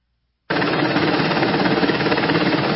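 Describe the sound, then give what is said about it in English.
A helicopter roars in abruptly as it comes down on a supply area in North Carolina, its rapid rotor chop thudding beneath a loud, steady rush of wind from the downwash that blows tents and supplies away, continuing without pause and with no voices. “Helicopter comes down on the supply area and just blows it all away.”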